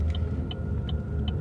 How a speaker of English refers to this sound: Oh, there's another car coming. Oh fuck. Okay. So I can get out and stop them. Damn it. Yeah, don't stop them, we'll get in trouble.